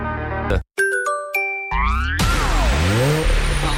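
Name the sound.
car engine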